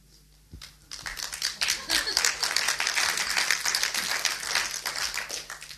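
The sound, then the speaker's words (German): A crowd of listeners breaks into applause during a teaching, a dense wash of many hands clapping at once, steady for several seconds. “Während ich jetzt lehre, versuche ich zu analysieren, warum ihr an bestimmten Passagen klatscht, um von da Informationen über euren Zustand herauszubekommen.”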